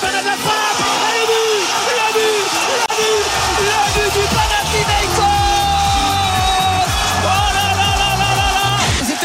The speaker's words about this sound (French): Vous entendez la joie, le soulagement, la ferveur des supporters du Panathinaikos. Marseille s'incline ici en Grèce à Athènes. Un but à zéro.